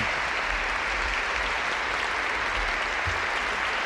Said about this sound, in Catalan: I el Papa somriu davant d'aquest aplaudiment dels voluntaris.